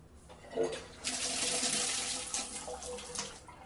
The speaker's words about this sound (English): A sink on the left. I told you I wasn't going to flush my toilet. I didn't say I wouldn't turn on the sink.